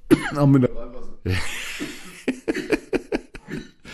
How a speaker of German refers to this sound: Hast du übrigens einen Husten heute? Ich habe mich verschluckt.